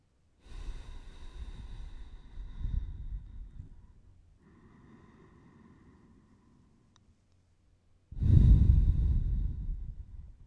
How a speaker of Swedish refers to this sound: Och sedan kan vi uppmärksamma andningen. Ta några lugna, djupa andetag.